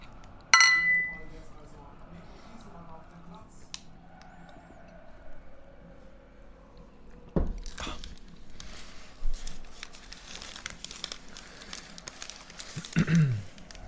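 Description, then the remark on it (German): Glasses clink together in a toast near the start, a bright ring that fades quickly, followed by quiet room noise, low murmuring and a few soft knocks and clatters. “Ja, Prost erstmal.”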